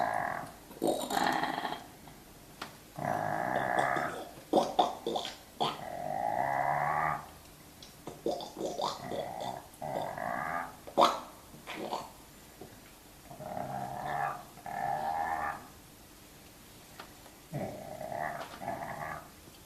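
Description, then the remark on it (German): Edible frogs (Rana esculenta) croak in a composed three-part chorus: loud, nasal, drawn-out calls come in repeated bursts of a second or so, overlapping and trading off, with brief pauses between phrases. “Per Coaching wird die Partitur, ein dreistimmig gesetzter Gesang, den beteiligten Fröschen übersetzt.”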